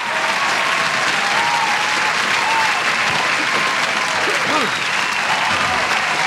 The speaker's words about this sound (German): Dat was een applaus waard, hè?